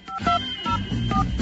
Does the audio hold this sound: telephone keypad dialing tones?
yes